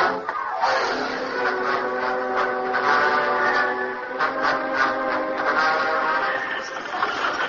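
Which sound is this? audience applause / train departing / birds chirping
train departing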